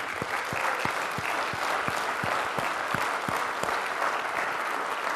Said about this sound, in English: And can we just like have a moment? Not just that, we got people on the parking lot that are meeting people and praying. So could we just have a moment and just give them a round of applause?